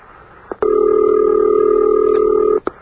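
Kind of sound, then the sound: household object, telephone ringing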